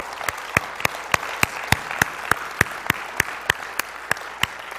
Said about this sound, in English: Let's give the Lord a big clap today, huh?